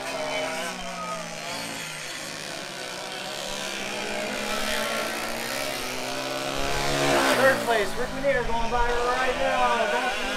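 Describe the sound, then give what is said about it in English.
Unlimited All-Stars race car engines whine and roar on a track, the revving drone swelling to a peak as one car, third-place Rick Minier, sweeps by, then fading while other engines keep buzzing. “Third place, Rick Minier going by right now.”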